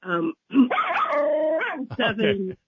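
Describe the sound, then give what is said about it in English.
A dog barks and yips at home: a short yelp, then a long, drawn-out whining bark, followed by a couple of quick sharp yips. “Seven, yes, my dog.”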